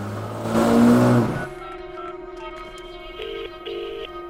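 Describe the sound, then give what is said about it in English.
A car engine revs hard and roars off outside a prison as the driver speeds after another car, loud for about a second, then settles into a steadier, quieter drone with a few brief pitch shifts as it drives on. “Harry speeds after the car that dropped him off”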